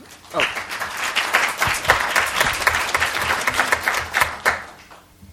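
An audience applauds steadily for about five seconds, a dense wash of many hands clapping that holds at an even loudness before tapering off abruptly at the end.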